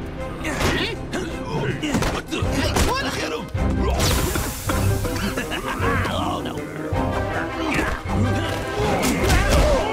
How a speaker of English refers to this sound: But the glass breaking and...